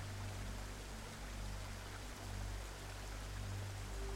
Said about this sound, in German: Wie der Fluss mit Leichtigkeit um dich herum fließt, so fließt auch alles ganz leicht und frei in dir.